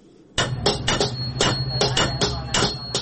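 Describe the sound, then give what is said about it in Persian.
Repeated metallic hammer strikes on copper ring out in a quick, slightly irregular rhythm, about a dozen blows, as a coppersmith works in the coppersmiths' bazaar of Herat, Afghanistan, with a faint workshop hum underneath and no talking. “بازار مسگری های هرات که در میان مردم شهرت عام و خاصی داشت دیگر رونق گذشته را ندارد. نه صدای آن چکش ها به گوش می رسد و نه هم ظروف میسی خریداران سالهای گذشته را دارد.”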